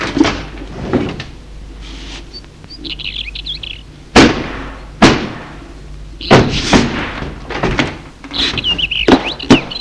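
The gate of a house is unlocked with keys and opened with a series of sharp metallic clanks and rattles, while birds chirp and tweet in the background.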